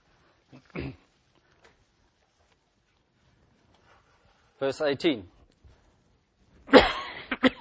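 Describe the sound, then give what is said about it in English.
Three separate bursts of coughing, fairly loud: a short cough, then a rougher throaty one a few seconds later, and a final harsh, breathy cough after a brief pause. “Excuse me if I cough a little bit this morning and snivel and do a few other things.”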